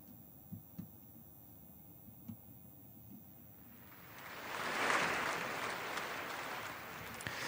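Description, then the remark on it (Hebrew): After a few seconds of near-quiet with a few soft low thumps, audience applause welcoming conductor Gustavo Dudamel for an encore with the Gothenburg Symphony Orchestra swells in, a dense crackling wash of clapping that peaks quickly and carries on steadily to the end. “קהל מקבל את פניו של גוסטבו דודמל לביצוע ההדרן.”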